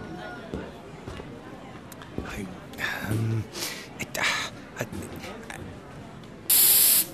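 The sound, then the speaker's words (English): A single loud, hissing burst from a can of insect spray, about half a second long, comes at the very end after a stretch of low, muffled background noise with faint voices. “He goes to a shop and buys some insect spray.”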